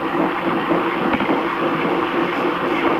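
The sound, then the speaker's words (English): A voice imitates a brushed cymbal and snare drum: a steady, breathy hiss runs throughout with faint, quick clicks ticking in a loose rhythm underneath. No one talks. “What you basically heard was the cymbal brush as well as my snare work.”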